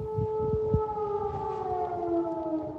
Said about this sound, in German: Mittlerweile leider auch an die ständig heulenden Sirenen.